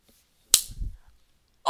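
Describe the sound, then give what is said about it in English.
One sharp hand slap lands with a crisp, bright crack and a short low thump trailing off. A brief noisy burst follows just before the end, with no voices. “Well, how about I slap it?”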